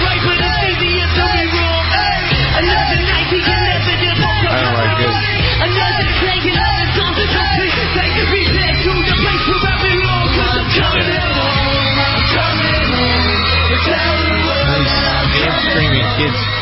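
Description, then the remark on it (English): A loud, continuous wash of yelling and high-pitched screaming from kids in a concert audience while several pop singers perform together, with a steady low musical hum underneath throughout. “I know, I sound these like these damn screaming kids.”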